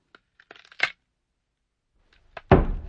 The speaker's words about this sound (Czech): Přímo před ním se zaryl do země oštěp